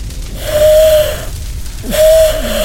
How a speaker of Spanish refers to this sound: Oigo un silbato.